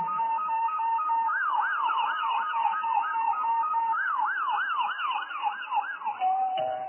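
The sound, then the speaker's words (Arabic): A police car siren wails in rapid rising-and-falling sweeps as police arrive for a burglar. It is loud and continues steadily for several seconds before shifting pitch near the end, with faint road noise underneath. “أسمع صوت رجل حرامي، ولكن الحمد لله الشرطة وصلت.”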